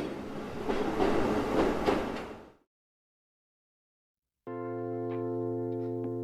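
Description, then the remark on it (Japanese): An electric passenger train in Japan, on its way to Okayama, rumbles along the rails with a dense, steady roar and faint rhythmic clatter, then cuts off; after a brief silence a steady, humming electronic tone begins. “電車に乗って30分を過ぎると岡山に着いた。”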